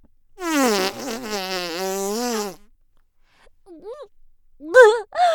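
A woman farts into someone's face: a long, loud, buzzing fart lasts about two seconds, its pitch wavering and sinking slightly, followed after a pause by a few brief, soft vocal sounds from the woman.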